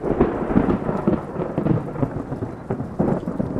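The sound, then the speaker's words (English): Loud thunder directly overhead rumbles continuously, deep and heavy, with a steady wash of rain hissing underneath, during a muggy hike. No voices are heard. “That's pretty much directly overhead.”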